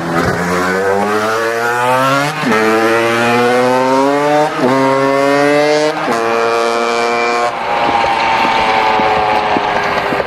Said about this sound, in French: Allez, on prend le vélo moteur et on y retourne.